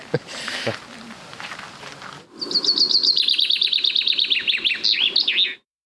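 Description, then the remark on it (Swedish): A common chaffinch sings on a Sunday morning, a bright, rapid song of repeated high notes that accelerates into a descending flourish, clear, preceded by a couple of seconds of rustling noise. “Ja, och bofinken och dess sång var en av fåglarna som”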